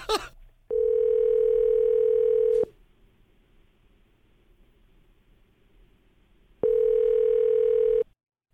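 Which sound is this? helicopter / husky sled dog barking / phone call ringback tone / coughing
phone call ringback tone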